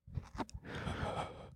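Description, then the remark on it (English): A voice imitates ghostly breathing: a few soft mouth clicks, then one long, airy, hissing exhale that holds steady for about a second before cutting off. “American Airlines passengers have reported ghoulish moans and ghostly breathing over the intercom systems on several flights in recent months.”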